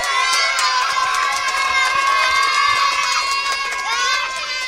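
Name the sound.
crowd cheering and applauding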